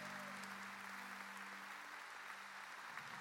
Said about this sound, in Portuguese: Quem quer confiar em Deus aqui, dê um aplauso.